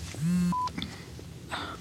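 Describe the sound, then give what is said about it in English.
A telephone rings with a brief electronic tone sequence: a low sustained note, then a short higher beep and a tiny chirp, moderately loud against a quiet background. “please answer the phone if you need.”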